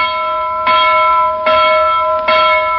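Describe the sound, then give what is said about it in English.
A loud hand bell, Captain Cat's get-out-of-bed bell announcing the morning to wake the sleepers, rings out in three evenly spaced strikes, its bright metallic tone hanging and humming between each clang. Insistent, with no voices. “And soon you shall see the chimney slow up flying snow as Captain Cat, in sailor's cap and sea boots, announces today with his loud get out of bed bell.”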